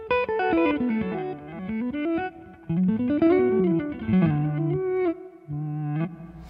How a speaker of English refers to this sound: Then preset two is a reverse delay on one side.